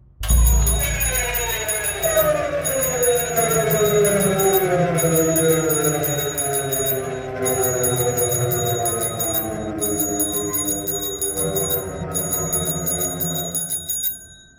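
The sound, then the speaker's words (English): A bicycle bell rings rapidly and continuously in shrill, bright bursts, broken by brief pauses every couple of seconds, over a loud, low rumbling layer that runs throughout. “I willed my body out of its catatonic prison and rang my bicycle bell repeatedly, chanting, "Begone!”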